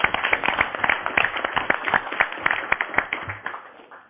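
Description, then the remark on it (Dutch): An audience applauds with a dense patter of many hands clapping, steady and fairly loud for about four seconds before it tapers off toward the end. “Een groot applaus.”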